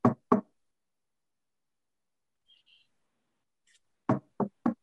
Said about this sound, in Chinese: 这个时候呢，有人敲门。